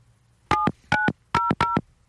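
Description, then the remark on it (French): Four short telephone keypad tones beep in quick succession as a phone number is dialed to call a store, each a steady dual-pitched electronic note about a fifth of a second long, clear with brief gaps between them. “J'ai fait le 1, là.”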